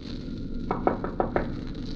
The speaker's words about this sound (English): At exactly 4:30, I knocked on the captain's door.